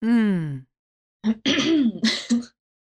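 woman clearing her throat

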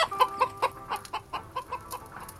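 hen clucking

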